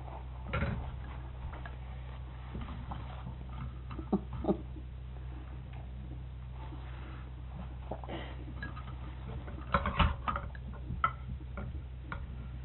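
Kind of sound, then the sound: nature, rain starting to fall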